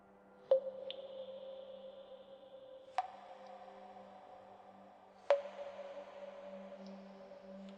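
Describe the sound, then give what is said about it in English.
Three slow, widely spaced water drips plink into a puddle on the ground, each leaving a long ringing echo that hangs in a quiet, reverberant large room over a faint steady hum. “We aimed our flashlights around to reveal more of the room, a light dripping sound of water hitting a puddle on the ground echoing throughout the room.”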